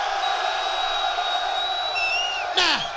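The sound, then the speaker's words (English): A crowd at a party cheers and roars steadily as the MC calls on them to make some noise, with high whistles and whoops rising above the din, then a sharp burst of shouting near the end. “Now, to all the brothers in the place that don't give a damn about what them ladies talking about, cause you just trying to get your man, make some noise.”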